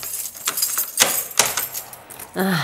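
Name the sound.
keys jangling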